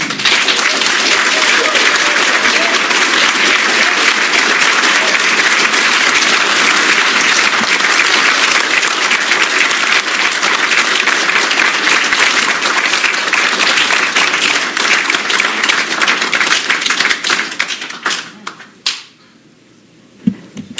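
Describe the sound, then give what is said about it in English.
A crowd supporting candidates for sheriff claps vigorously in a dense, steady roar of applause for about seventeen seconds, then it thins out into a few scattered claps and fades away. “Everyone's had an opportunity to clap vigorously and get that out of your system and support the candidates that you're here to support and the messages that they each have.”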